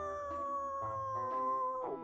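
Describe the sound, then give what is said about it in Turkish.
Long, steady howling from dogs or wolves in the distance around sunrise, held on a sustained tone for about two seconds before wavering slightly at the end, fairly quiet and with no one talking. “İşte etrafa bakıyoruz falan, ne yapalım kalkalım falan derken uzaktan bir uluma sesleri geldi böyle.”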